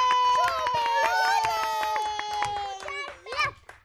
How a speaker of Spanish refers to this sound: Muy bien, un aplauso para